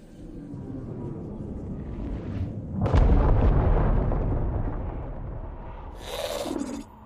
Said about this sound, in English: I heard it too. It sounded like an explosion.